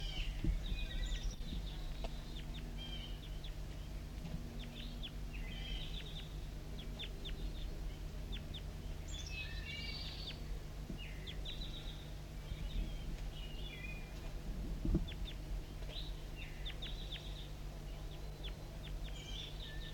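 Repeated high chirps and short calls from several wild birds perched in a branch about 15 meters overhead, scattered across the whole stretch over a steady low hum of background noise, with no voices.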